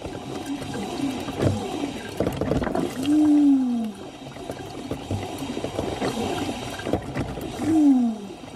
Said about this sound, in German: Liebe Hörerinnen und Hörer, was hier so erbarmungswürdig stöhnt und röckelt, das bin nicht ich, sondern das ist meine Kaffeemaschine Susi.